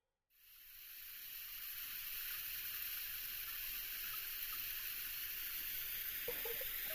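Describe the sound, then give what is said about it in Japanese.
A shower sprays steadily onto a person's hair to wet it before shampooing, starting abruptly, a dense continuous hiss with soft wet patter underneath, constant, with a faint brief splash near the end. No one speaks. “シャワー熱くないですか？”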